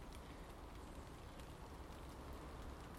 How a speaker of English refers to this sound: There's no wind this morning, so as I've said before, that's the best rain, when the rain just comes straight down. And it's not really heavy as such, but it's nice.